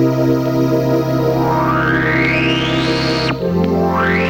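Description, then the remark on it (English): A Krumar Orchestrator synthesizer holds a sustained string chord while its filter resonance slowly sweeps upward in a whistling glide, then the chord shifts and a new sweep begins rising again. Loud, with no talking. “And with a flick of a switch, slowly sweep the filter resonance while playing pianos or strings.”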